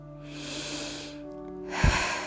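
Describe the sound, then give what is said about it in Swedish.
A long, deep breath drawn in through the nose, airy, with a brief pause before a second, sharper sniffing intake near the end. No one speaks. “Andas in.”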